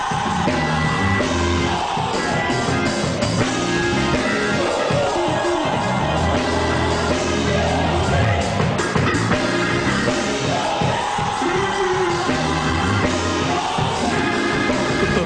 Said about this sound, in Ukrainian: шау це крики, так? Тобто це така спонтанна імпровізаційна музика, бас-гітара там що ду-ду-ду-ду-ду, швидко грає, барабани і все таке. Ну, звичайно, є гармоніка, там пару акордів, щоб це все об'єднати.